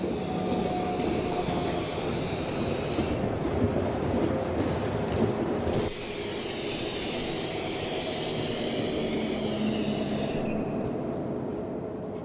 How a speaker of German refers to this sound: denn er sprayt, wie man hier im Video sehen kann und wie man dann auch hören wird, tatsächlich eben diese Glasscheiben an